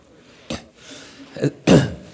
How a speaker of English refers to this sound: Before I start, let me say that I might sputter and cough a little bit during the sermon. I have a cold that loves me more than I love it, and please, it won't bother me, so please don't let it interrupt your listening to me.